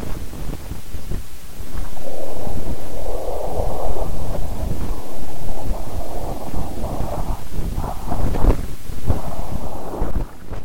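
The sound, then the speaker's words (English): An audification of data by Robert Alexander: a steady, loud low rumble with a wind-like whooshing running through it, swelling and fading in uneven surges for about ten seconds, with no voices. “Well, there is a little bit of a whooshing sound in there.”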